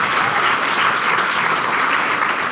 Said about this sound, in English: I think we can hear an applause for solidarity by that. Right?